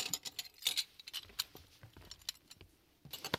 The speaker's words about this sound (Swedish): Jag börjar plocka upp glasskärvorna från golvet.